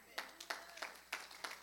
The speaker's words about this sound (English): He's proud of you. Clap your hands.